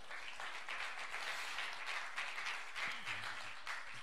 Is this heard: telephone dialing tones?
no